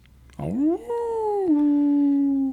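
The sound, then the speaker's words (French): A single drawn-out wolf howl, sliding upward at the start and then holding a long, steady, mournful tone for about two seconds, loud. “Lycanthropie veut dire loup-garou. Cette aptitude à se transformer en loup.”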